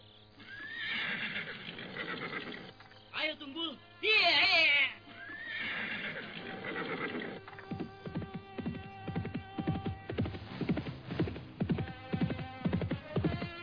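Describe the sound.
A horse whinnies loudly with a shrill, wavering neigh, followed by a steady run of clip-clopping hooves at a quick pace as it is ridden through a forest west of the city of Rupada. A voice briefly speaks in between, and a low hum runs underneath.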